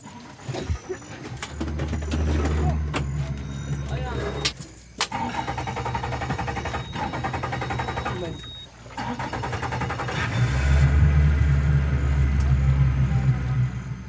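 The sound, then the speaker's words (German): A motorboat engine, started by a village chief, sputters to life and settles into a steady, throbbing drone as the boat heads upstream on a river, briefly easing off mid-way before revving louder toward the end. “Der Cacique, also der Häuptling des Dorfs, startet das Motorboot und fährt flussaufwärts.”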